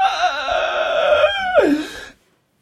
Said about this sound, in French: Ça aussi, c'est une oie qui agonise. Mais je ne sais pas où c'est. C'est la vie de la ferme.